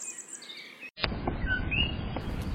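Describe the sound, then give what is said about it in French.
Tiny frogs, barely 5 cm long, calling at night near ground level in Hawaii, with high, bird-like chirps and short rising whistles, repeating a few times over a steady rumbling background, moderately loud. “Après quelques recherches, il s'avère qu'il s'agit de grenouilles.”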